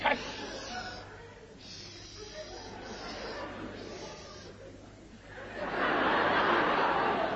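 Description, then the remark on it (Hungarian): A person imitates a hissing snake with a drawn-out, breathy hiss that swells louder and fuller near the end, mixed with faint snicker-like voice sounds. “Mivel én magam játszom el a kígyót is.”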